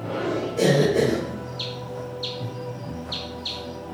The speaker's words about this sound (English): Old stone bridges are a favorite roost. The water bat chirps aren't exactly subtle. At 110 decibels, it makes more racket than a road drone. But like us, most of the insects it hunts can't hear ultrasound.